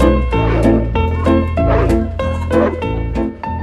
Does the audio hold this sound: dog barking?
yes